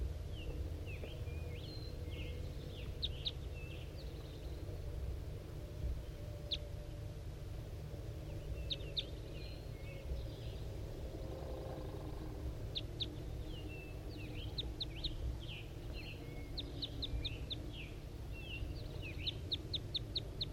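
A wild male bird sitting in a pine tree halfway down a hill calls repeatedly in short, high chirping bursts, while a bird known as 5-3 answers in brief trills from inside a net, over a steady low rumble of background noise with no talking.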